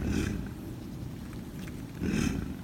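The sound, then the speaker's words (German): A large mammal growls deeply in two broad pulses, each starting with a raspy burst and carrying a low throaty drone between them, steady and fairly loud with no talking. “Ja, heißt im Fachbegriff tatsächlich, es knurrt.”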